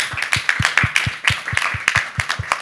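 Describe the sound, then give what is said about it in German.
An audience gives supportive applause for the Ukrainian Art Aid Center, a steady patter of many hands clapping at a brisk, fairly even pace, moderately loud throughout, with no voices over it. “Und an das Ukrainien, ja, dann gerne einen unterstützenden Applaus.”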